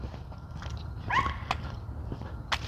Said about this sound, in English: Hush, dog. Hush, you little yappy little bugger.